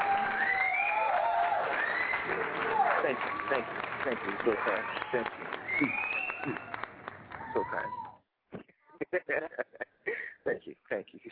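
crowd cheering sound effect

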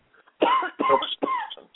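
coughing

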